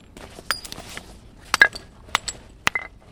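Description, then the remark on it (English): A moose antler used as a hammer knocks large flakes off a piece of brown and black obsidian to make an arrow point, in about six sharp, irregular strikes, each a crisp, glassy click with a brief bright ring. Nobody speaks. “Using a moose antler as a hammer, he's chipping off large flakes from a beautiful piece of brown and black obsidian.”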